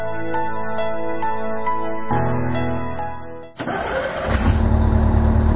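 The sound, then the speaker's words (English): A 1000cc car engine cranks with a rhythmic, whirring starter sound, then catches and roars to life, revving up loudly. No one speaks. “What's the engine like? It's a 1000cc and it seems in good condition.”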